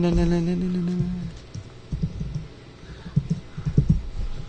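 Heavy, irregular clacking of computer keys being pounded in uneven bursts after a brief low humming tone at the start, as someone hurriedly works at the computer while a show is being set up.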